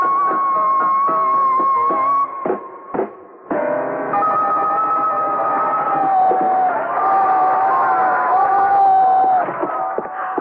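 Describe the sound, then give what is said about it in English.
A loud hometown crowd cheers and yells continuously, many voices whooping and hollering together, with a brief dip in the din a few seconds in before the roar swells back up. “Oh, the hometown crowd is always the best.”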